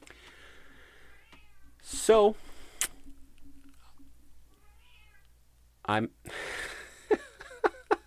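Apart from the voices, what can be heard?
cat meowing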